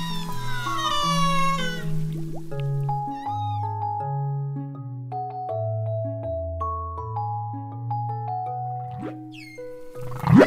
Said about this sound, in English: That, in case you didn't know, is a humpback whale singing.